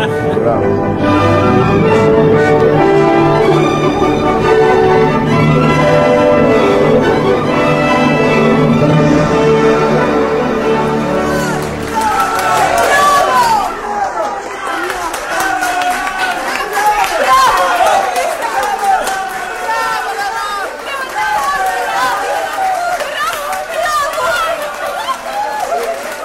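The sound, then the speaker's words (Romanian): About thirteen seconds of loud, sustained music end, then a theatre audience bursts into steady, dense applause mixed with crowd voices and cheering that carries on to the end, after a singer's performance at an evening show. “Dar și ce aplauze, credeam că se dărâmă sala.”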